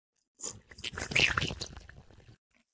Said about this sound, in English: Just start off with a quick big old slurp.